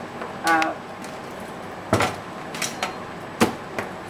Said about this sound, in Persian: ما به سرد باز میذاریم و بعد برنج رو میریزیم داخل سبد. یکم آب سرد داخل قابلمه. برنج رو تکون میدیم که به هم نچسبه.